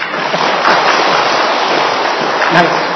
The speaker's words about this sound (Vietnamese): Cho tràng pháo tay đi.